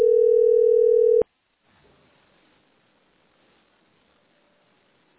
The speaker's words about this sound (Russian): Ну, вот этот телефон сбрасывает. Мобильный. А этот звонит.